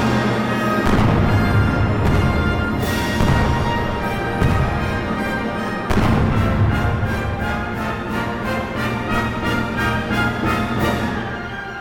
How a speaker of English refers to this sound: Not to be outdone in the non-instrument instrument department, Tchaikovsky wrote his 1812 overture to include an entire section of giant cannons.